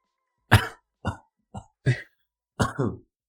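coughing

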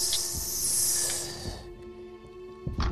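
hissing

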